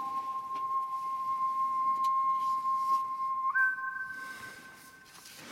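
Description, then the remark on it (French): A lone whistled melody from a film soundtrack: a long, steady held note that steps up to a slightly higher sustained tone midway, clear and fairly loud, with no talking. “Un des sifflements les plus célèbres du cinéma”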